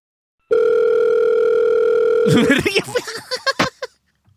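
A steady, unbroken telephone dial tone hums for about two seconds, then cuts off into a burst of short, uneven clicks and beeps as a call to Tønsbergs Blad is placed over a headset.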